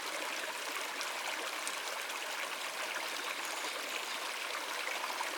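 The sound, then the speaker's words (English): Steady running water of a small stream, a continuous bright rushing and trickling that stays even throughout, with no voices or other sounds. “As we continue our journey, we might come across a stream or a small waterfall offering a refreshing break and a chance to listen to the calming sound of running water.”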